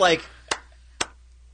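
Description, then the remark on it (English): A Viking clap: two sharp, loud handclaps spaced evenly about half a second apart, following a brief burst of voice at the very start. “That's the Viking clap.”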